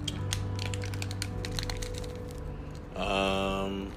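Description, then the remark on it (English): Powdered iced tea mix, basically powdered sugar, pours from a packet torn open at the side into a container with a soft, grainy rustle and scattered light clicks over a steady low hum, ending in a brief louder whirring tone. “And, yeah, so as you can probably hear or see, I'm going to be pouring this in.”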